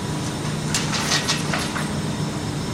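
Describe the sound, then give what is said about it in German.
A metal cart carrying hams on a rack is rolled across a hard floor into a smokehouse chamber with a steady rumble, punctuated by a few sharp metallic clanks and rattles in the middle. Fairly loud, with no talking. “Die Schüffel hier auf dem Wagen, auf dem Gitter, wo wir hier unten gesehen haben, in der Schinkenproduktion, werden jetzt so in die Rauchkammer gebracht.”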